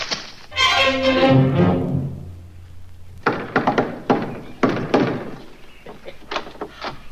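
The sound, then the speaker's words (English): A falling tonal swoop fades out, then someone knocks the shave-and-a-haircut rhythm: a quick run of sharp raps, a short pause, and two final knocks. “Shave and a haircut. Six bits? I most certainly did, Dennis.”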